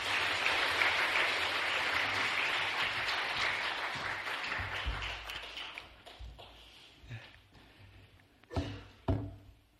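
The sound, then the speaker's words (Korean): A church audience applauds to welcome a guest pastor and seminary professor to preach, a dense wash of clapping that starts strong and steadily fades over several seconds, ending with a few louder thumps and knocks as the room settles. “우리 이 시간 큰 박수로 모시겠습니다.”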